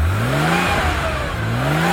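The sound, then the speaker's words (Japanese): A car engine revs up, its pitch climbing, eases off briefly, then revs up again, loud with a steady mechanical hum underneath and no voices. “抜群のプロポーション、目を奪われるルックス、そして心地よいエンジン音。”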